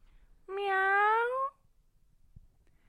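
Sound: cat meowing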